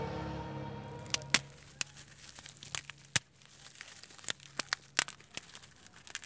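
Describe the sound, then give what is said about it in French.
Roots cracking and snapping in an irregular series of sharp cracks over a soft crackling rustle, with a brief low rumble at the very start and no voices. “On vous envoie le craquement de nos racines.”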